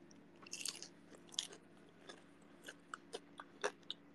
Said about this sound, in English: Okay, it's definitely burnt. But it tastes good. When you hear the crunch.